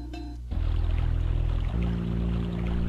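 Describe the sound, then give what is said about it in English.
A steady, loud rush of a waterfall fills the whole clip, a continuous broad hiss with low droning tones and music playing underneath, shifting pitch partway through. “Ah, that was a lot of music changes, but hey, we're finally at the waterfall.”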